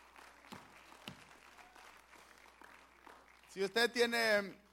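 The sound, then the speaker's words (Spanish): A church audience applauds for the Lord during an evening service, a steady patter with a few sharper claps standing out, before a loud voice cries out over the clapping near the end. “Puede sentarse, hermano, dándole un aplauso al Señor, aleluya.”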